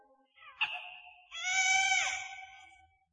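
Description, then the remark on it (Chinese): A baby cries in two wailing bursts, a short high cry followed by a longer, louder, strained wail that wavers and fades out, with no talking. “一天，老大娘拜完神，走在回家的路上，忽然听到一阵婴儿的哭声。”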